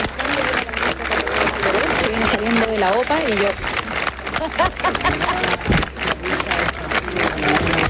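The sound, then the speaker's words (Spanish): Steady, dense applause crackles from undersecretaries gathered on a stage with a red carpet as President Gabriel Boric comes down from his presidential office, with a man's voice speaking loudly over the clapping the whole time. “Son los aplausos de los subsecretarios y subsecretarias que ya están instalados en esta tarima con una alfombra de color rojo que fue instalada ayer,”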